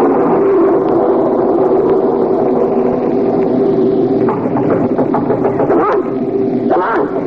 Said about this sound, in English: It's 6 a.m., and the storm that has been gathering force since midnight suddenly breaks loose with a fury that is frightful.